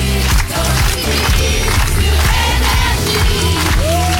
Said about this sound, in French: Attention! Vous pouvez applaudir, vous pouvez faire du bruit, on est dehors, tout va bien!